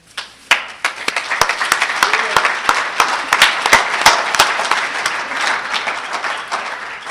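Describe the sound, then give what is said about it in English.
An audience at a morning meeting applauds steadily as the speaker is introduced, many hands clapping at once with sharp individual claps standing out, sustained for several seconds before tapering slightly toward the end. “I had to get the clap.”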